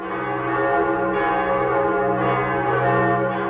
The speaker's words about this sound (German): Früher habe ich hier am Dom die Glocken geläutet. Hörst du sie?